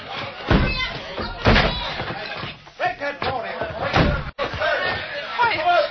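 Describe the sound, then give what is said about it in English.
A locked door is smashed in with several heavy, booming blows spaced about a second apart, each followed by rattling and splintering clatter that continues between the strikes. “Door's locked. No key. Stand back. I'm going to smash it.”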